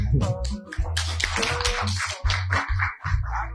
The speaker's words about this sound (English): Another round of applause to Mr.